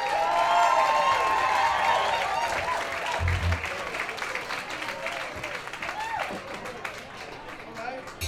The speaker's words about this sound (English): So give them a big round of applause for the band.